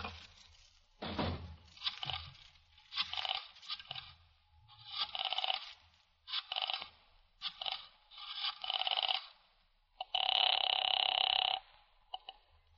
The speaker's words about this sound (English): I guess I'll have to make a phone call. Can I use your phone